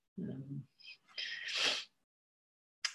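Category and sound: human body sound, sneeze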